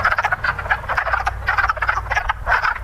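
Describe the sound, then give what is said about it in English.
Dense chorus of an exotic frog from another part of the world croaking in rapid, overlapping pulses, loud, with a steady low rumble underneath and no voices. “And he laughed at our frog noises, saying that, no, their frog's okay, but there's some exotic frog from some other part of the world.”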